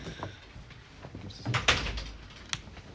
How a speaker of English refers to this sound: Okay, we can shut the door, but. No one here.